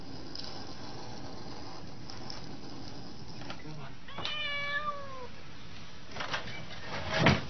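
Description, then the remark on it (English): A cat lets out one drawn-out meow that bends downward in pitch, heard over a steady low background hiss, followed by a few brief scuffling noises. “A well-practiced cat quickly recalls the actions that help it escape to its reward of food.”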